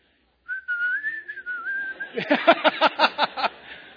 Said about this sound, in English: when you know you're alone and evil is nearby and you're walking down that alley at night and it's pitch black, what do? You whistle. That's what you do.